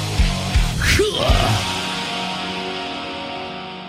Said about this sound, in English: The greatest live shows and that cheering crowd sound.